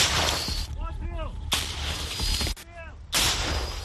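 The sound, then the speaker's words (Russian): A recoilless grenade launcher (SPG), fired by Ukrainian soldiers at a concentration of Russian forces, fires three loud, booming shots about a second and a half apart, each followed by a rushing roar, with brief raised voices between the blasts. “Огонь они ведут из СПГ, с танкового противотанкового гранатомета, и пытаются поразить российские силы.”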